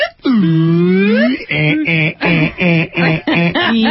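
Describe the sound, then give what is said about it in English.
A voice imitates a wailing house alarm siren: one long, loud, slowly rising tone, then a quick run of about six repeated up-and-down whoops in a steady rhythm. “They're like air raid sirens.”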